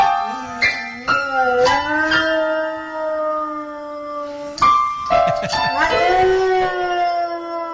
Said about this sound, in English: But they also have a piano playing dog. There's a dog on its hind feet playing the piano and, quote, singing, unquote.